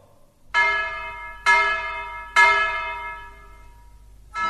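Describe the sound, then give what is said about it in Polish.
Three loud hammer blows on a large church bell, struck by a bell ringer repairing the broken bell, about a second apart, each ringing out in a bright metallic tone. Another strike begins just as the sound cuts off. No voices. “Nagle w ciszy odezwały się trzy uderzenia młota. To dzwonnik naprawiał zepsuty dzwon.”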